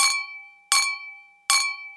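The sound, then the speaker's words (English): A silver knife held by Chris Harrison taps a half-full champagne flute three times in a vestibule, each bright clink leaving a high, pure ringing tone that slowly fades before the next strike. No voices, just the glass. “before I heard three sharp tones.”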